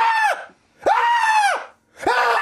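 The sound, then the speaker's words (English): A person imitates the screams of a snoring man who suddenly sat bolt upright, giving three loud, sustained high-pitched shrieks in quick succession, each rising then dropping off at the end, separated by brief silences. “He says, please simulate screaming.”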